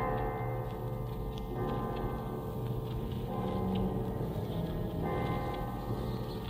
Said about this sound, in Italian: La campana! Campana! Quale? Dove? La campana sommersa! Suona! Suona!